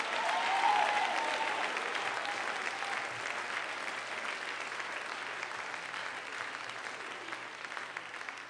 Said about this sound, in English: Give Jesus a big, big hand clap.